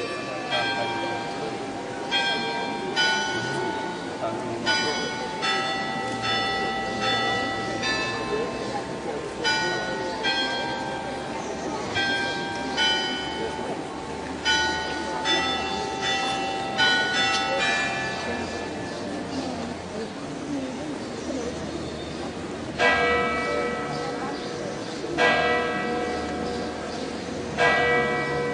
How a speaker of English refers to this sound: The chiming bells of the Basilica in Lourdes.